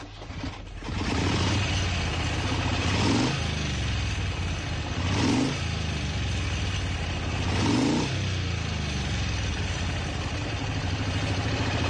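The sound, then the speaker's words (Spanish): A motorcycle engine runs loud, its steady growl swelling in three distinct revs spaced a couple of seconds apart, with no voices over it. “Pero si lo que te gusta es la moto y tienes una moto o no, pero te gusta, espera, vamos a escuchar esto.”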